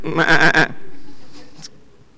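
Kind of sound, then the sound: animal, sheep bleating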